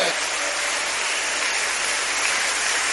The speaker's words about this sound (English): Now if you are clapping for Jesus, you should do it very well. It's not begging you to clap, but because your hands are still there.